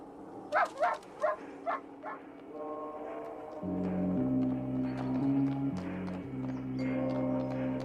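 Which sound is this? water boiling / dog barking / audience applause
dog barking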